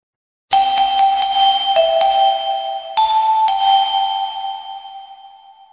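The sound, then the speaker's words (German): A bright bell chimes in a quick series of two-tone dings, its ringing notes overlapping and slowly fading out, clear with no voices. “Ich komme zurück zu Klartexten und zu der Glocke.”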